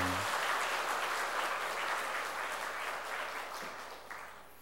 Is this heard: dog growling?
no